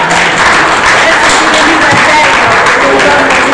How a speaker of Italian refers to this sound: Io direi di terminare qui. Un grande applauso.